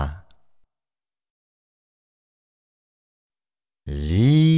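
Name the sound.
fox call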